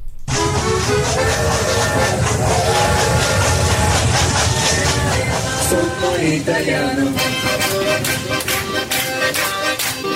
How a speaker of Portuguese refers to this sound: A viagem é de trem. No vagão, palmas, música e muita animação até chegar ao destino. Assim são os passeios turísticos para as vinícolas do Vale dos Vinhedos, no Rio Grande do Sul.